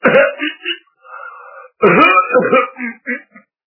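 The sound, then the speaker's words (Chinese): In a storytelling performance, a person gives two deliberate, voiced coughs for a character who sits down on a chair, loud, separated by a brief pause with a softer murmur between them; the coughs sound theatrical and throaty, like exaggerated throat-clearing. “三步两步退到外屋，往椅子上一坐，咳嗽两声。”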